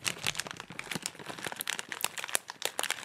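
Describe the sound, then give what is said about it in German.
Plastic packaging film crinkles as many layers of film and adhesive spots are picked off a newly bought product, a busy stream of crackly rustles with sharp snaps scattered throughout. No voices are heard. “stattdessen musst du erstmal 1000 Folien irgendwie abknibbeln und hier noch so eine Klebestelle”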